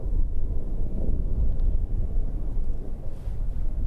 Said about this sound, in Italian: Un elicottero in lontananza sorvola la città.